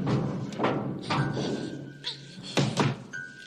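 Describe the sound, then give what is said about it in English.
A door is banged hard several times in irregular succession, loud thuds that ring out briefly, with a faint steady tone lingering underneath between the blows. “bangs the door.”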